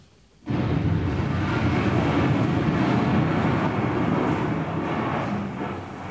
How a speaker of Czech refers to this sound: Naštěstí má doktor Hedvábný neustále po ruce svůj oblíbený magnetofon Sonet Duo. A díky tomu máme na věčné časy zachován zvukový snímek onoho historického liptákovského výbuchu. Prosím o jeho spuštění.